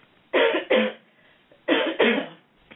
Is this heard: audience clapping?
no